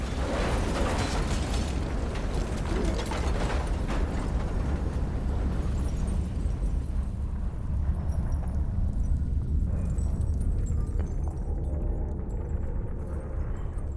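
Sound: explosion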